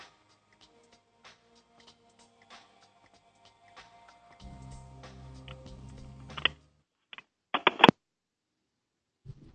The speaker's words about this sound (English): I think he hung up. I just heard it go out. Yeah, I heard clicking.